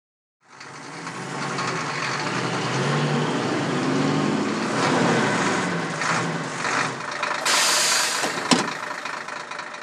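A bus's large diesel engine idles steadily as a passenger has just boarded, a continuous low rumble with a mechanical rattle, briefly joined by a hissing burst near the end, like air brakes or doors.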